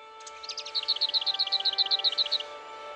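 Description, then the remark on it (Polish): A bird calls from bushes in a quick, even series of about a dozen sharp, high, clear chirps, over a faint steady hum with no voices. “W krzakach darły się ptaki.”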